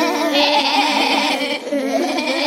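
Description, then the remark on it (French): Several sheep bleat at once in a sheepfold, their wavering, overlapping cries forming a loud, continuous chorus with no pauses. “» Tandis que d'autres bêlaient avec indignation.”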